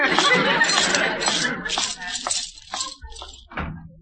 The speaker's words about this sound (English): Boy, what a wonderful music them diamonds make clinking against the gold.